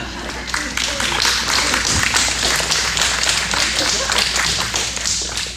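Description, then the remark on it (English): Audience applause: a dense, steady wash of many overlapping hand claps that keeps up at an even, fairly loud level for about five seconds before easing slightly at the end. “I'll wait for the applause.”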